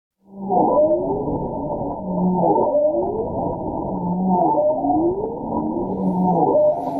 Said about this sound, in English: These are some seldom heard sounds of winter in Alaska. They're the calls of bowhead whales recorded underwater and under ice in the Bering Sea. University of Washington researcher Kate Stafford says it's probably male bowhead singing